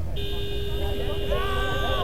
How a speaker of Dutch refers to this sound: Toeters!